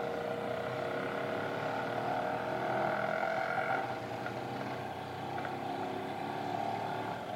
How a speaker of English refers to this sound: Horns, motors, wheels, brakes, a wave of noise scrapes the air outside